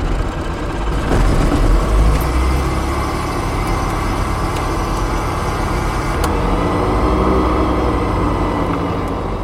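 The engine of a small light touring propeller airplane is started up, catches and settles into a loud, steady rumbling idle, with a coarse low drone throughout and no voices.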